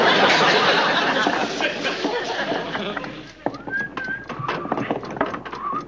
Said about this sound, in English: Will you stop that whistling? I can't concentrate.